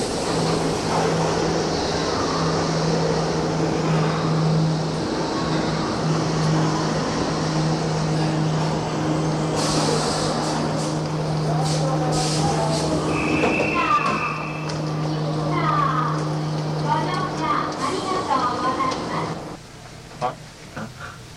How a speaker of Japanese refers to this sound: 今地下鉄が入ってきました。高畑行きです。